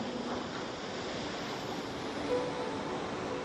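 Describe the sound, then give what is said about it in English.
Soft ocean waves lap steadily in a continuous, even wash of surf at sunrise, with palm trees and a faint breeze beneath and no voices. “The breeze, the warm early sunlight, the gently lapping peaceful waves, softly moving palm trees, all of these create a calm and peaceful place.”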